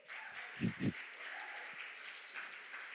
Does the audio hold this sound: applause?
yes